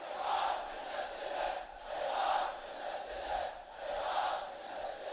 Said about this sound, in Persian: صدای آمیخته با فریاد هیهات من نزله زائران حرم. ولن نفرط بعقیدتنا، هیهات من نزله.